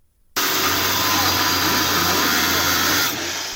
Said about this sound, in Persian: صدای اره برقی نیروی انتظامی برای ورود به یک محل غیرقانونی استخراج بیت کوین یکی از انواع رمزارزها.